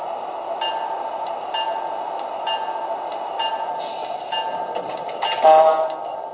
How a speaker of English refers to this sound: track one from Washington, train number 173, the Senator.